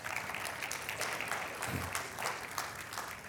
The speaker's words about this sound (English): Yes, you can clap now.